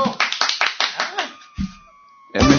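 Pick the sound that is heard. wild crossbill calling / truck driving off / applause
applause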